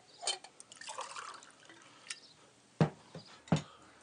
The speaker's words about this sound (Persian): آب بده آب بریز